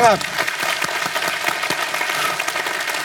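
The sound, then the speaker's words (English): A church audience claps steadily for about three seconds, a dense, fairly loud patter of many hands, with the tail of a voice heard briefly at the very start. “And what's so interesting right now, clap for that, amen.”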